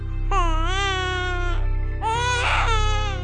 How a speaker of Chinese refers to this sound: 夜空极静，星星在天空闪烁着，马棚中传来婴儿诞生的声音。